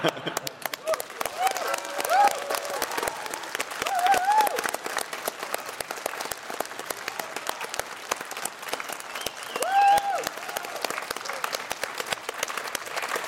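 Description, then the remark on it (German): A crowd claps steadily for about thirteen seconds, a dense rattle of many hands at an even, moderate loudness, with a few faint whistles and cheers rising above it. “Und meine Idee ist, es wäre ja noch geiler, wenn eigentlich wir für euch klatschen könnten, weil ihr auch alle mitmacht.”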